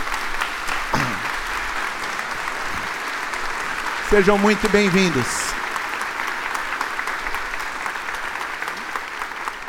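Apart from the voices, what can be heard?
church audience applauding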